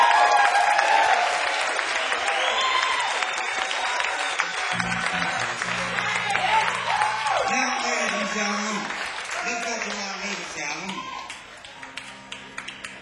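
A crowd applauds steadily for several seconds, dense clapping at a constant level, while sustained musical tones join partway through and continue under the clapping, a big round of applause for a blues performer.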